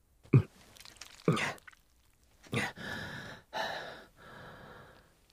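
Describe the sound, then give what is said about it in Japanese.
A person chokes and coughs in sharp, harsh bursts after something was pushed into their throat, then pulls in several long, ragged gasping breaths, fairly loud with no talking. “むせたからちょっと垂れてきてる。”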